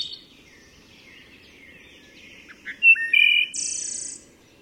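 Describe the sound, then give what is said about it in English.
A wood thrush sings a series of clear, fluting phrases in the woods, rising into a bright, loud final trill, with a reverberant, echoing quality and faint background birdsong; no voices. “It's not like any of the other birds. It's like the whole woods is singing.”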